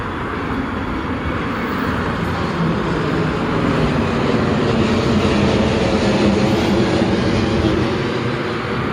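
small airplane taking off

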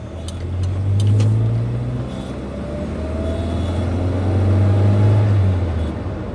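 car engine revving

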